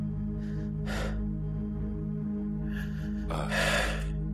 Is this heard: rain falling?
no